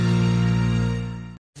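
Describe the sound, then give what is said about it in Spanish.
A loud buzzing drone of a wasp inside a car, steady and rich, fades slightly, stops abruptly after about a second, then starts up again briefly. “Uy, se ha colado una avispa en el coche.”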